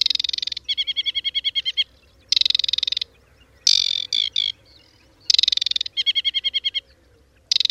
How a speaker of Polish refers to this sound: U rozśpiewanego ptaka zwrotka rozpoczyna się zawsze trzeszczącym terkotem, po którym następuje jedna, czasem dwie lub trzy serie identycznych gwizdów. Wodniczka, podobnie jak rudzik, każdą zwrotkę wyśpiewuje nieco inaczej.